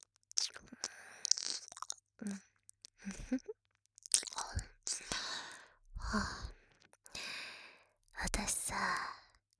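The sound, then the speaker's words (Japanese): Wet, smacking mouth sounds of ear licking, coming in soft repeated bursts with breathy sighs and slurping textures between them, quiet and intimate with no clear speech. “このイケメンめ、お耳を舐めてあげるから。おとなしくしとけ。”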